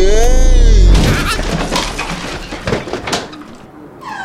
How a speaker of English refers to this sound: Oh no! I'm falling! I'm falling on the table!